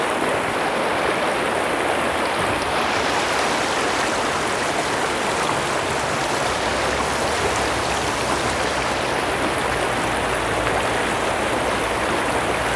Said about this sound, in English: But just listen to the sound of that river.